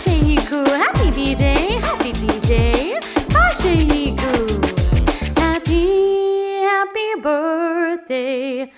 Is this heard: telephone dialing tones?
no